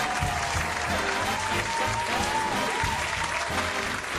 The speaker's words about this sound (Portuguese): Ergo-me lentamente e vou ao palco. À minha volta, sussurros e irônicos aplausos.